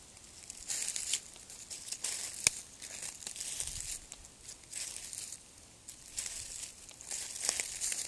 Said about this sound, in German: Spüre in die Blätter hinein, die unter deinen Füßen rascheln. Achtsame, langsame Schritte, voller Hingabe zum Boden nach unten spüren.